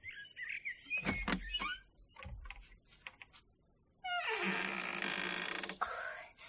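A door opens noisily: a few sharp clicks and knocks, then a loud, sustained grinding creak lasting nearly two seconds before it stops, with no talking.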